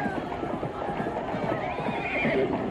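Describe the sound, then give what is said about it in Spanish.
Horses ridden by officers whinny over a busy, continuous clatter of hooves clip-clopping as they rush in, loud, with a faint murmur of voices in the background, in Guatemala. “¡Los oficiales vienen a toda prisa con sus caballos y no respetan a nadie!”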